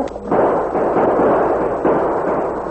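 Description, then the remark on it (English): A loud burst of gunfire, several sharp shots blurring into a continuous roaring clatter that lingers for a few seconds, with a fresh surge partway through. No one speaks. “Use your gun, Tonto.”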